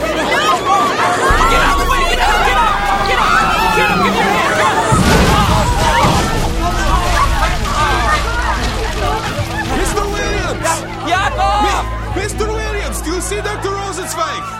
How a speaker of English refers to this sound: It's my leg. They trampled me. I think it's broken. Well, try to get over here, under the stage. It'll get you out of the stampede. Come on! There's too many people.